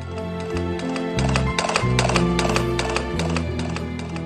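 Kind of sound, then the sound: animal, horse-drawn carriage hooves clip-clopping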